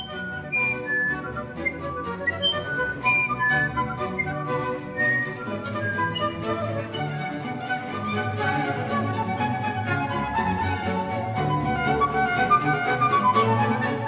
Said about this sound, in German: Und sie haben da sogar im Gesang von diesen Flageolett-Zaunkönigen Passagen gefunden, wo sie sagten, oh, der Vogel, der singt in genau derselben Weise, wie später Bach oder Haydn komponiert haben.